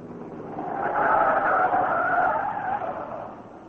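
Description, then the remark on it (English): A car skids to a halt on a dusty road, a sustained, rough screech of tires that swells and then fades over a few seconds, with a grinding, gritty texture and no talking. “Cato, stop the car.”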